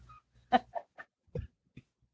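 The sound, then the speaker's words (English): Wild dogs give a handful of short, separate calls, chattering, laugh-like yelps and a lower growling burst, spaced out over a couple of seconds at moderate volume with no talking. “And listen to this horrible laughing and growling.”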